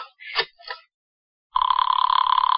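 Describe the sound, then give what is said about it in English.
After a few short, scattered sounds and a brief silence, a telephone bell starts ringing loudly, a steady rapid metallic trill that continues to the end. “Give me the phone.”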